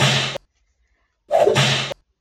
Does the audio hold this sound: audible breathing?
no